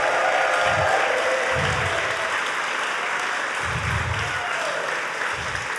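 Sustained applause from an audience, a dense steady wash of many hands clapping at an even loudness throughout, with a few low thumps mixed in.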